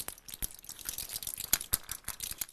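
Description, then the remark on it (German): Tablet-like pieces of cooking potato starch squeezed and turned in a hand, giving a dense run of fine crackles and crisp squeaky crunches that fizz like an egg sizzling in a pan. No one speaks. “Klingt echt ein bisschen wie so ein Ei, was in der Pfanne brutzelt.”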